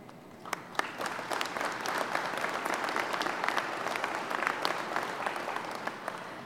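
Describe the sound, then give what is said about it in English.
An audience applauds steadily for several seconds, a dense wash of many hands clapping at once with sharp individual claps standing out, moderately loud and sustained without any speech, cheering for Canada, its workers and Goodyear's decision to expand in Napanee. “So let's cheer for Canada. Let's cheer for the great work that the workers are doing.”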